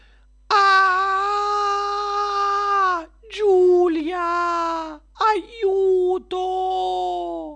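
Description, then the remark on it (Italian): A terrified scream at a giant spider on the ceiling: one long, loud, high-pitched shriek held for a couple of seconds, followed by two shorter, wavering cries, with no other voices. “può una storia iniziare con un urlo spaventoso?”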